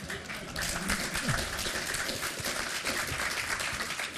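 One person claps hands steadily and continuously for all four seconds, a dense run of quick claps at an even loudness, with no pause and no clear talking over it.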